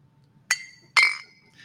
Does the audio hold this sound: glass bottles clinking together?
yes